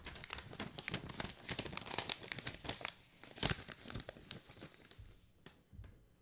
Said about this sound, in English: I'll get, it'll sound like there's been a message in the pneumatic tube, and I'll open it up, and out will pop a paper airplane. And I open up that paper airplane, and, let me just have an example here.